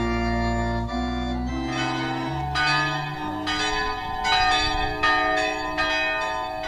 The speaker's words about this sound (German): Tag 2 hier beim Glockenguss in Perwer in Salzwedel. Die Glocken haben zum Gottesdienst gerufen. Die neue Glocke, die ist da natürlich noch nicht dabei.